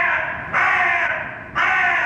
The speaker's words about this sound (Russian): Ворона.